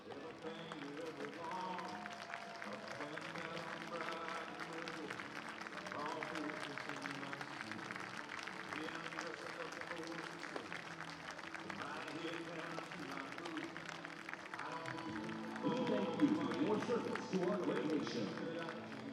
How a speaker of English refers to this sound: On this night, we thank all of our active duty and veterans who have served in the military. So please rise so that you may be recognized with a round of applause of appreciation.